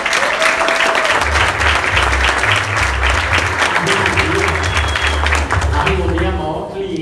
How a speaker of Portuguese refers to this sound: Merece uma salva de palmas.